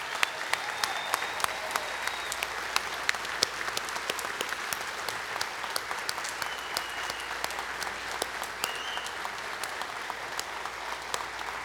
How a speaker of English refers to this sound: So moms, be seated. Kids and husbands and fathers, will you rise in honor? And let's give our ladies a big round of applause.